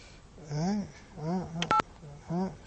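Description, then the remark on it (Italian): A quick burst of two or three telephone keypad dialing tones, short steady beeps in close succession as another phone call is dialed, set between stretches of a person talking. “Bene, facciamo un'altra telefonata a qualcuno, Ecco.”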